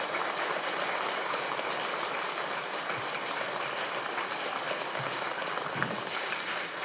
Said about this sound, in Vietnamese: Tất cả chúng ta hãy dâng cao một tràng vỗ tay để bày tỏ lòng biết ơn đối với thầy.